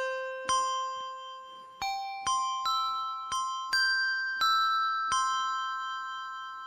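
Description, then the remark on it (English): A string of bright, handbell-like notes is struck one after another, about eight in all, with the sustain pushed a little too far so each rings on and blends into a sustained, shimmering hum. No voices. “Oh, that one's going to ring out forever now because I hit my sustain and it went a little bit too far, so listen to it hum for a while until it quits.”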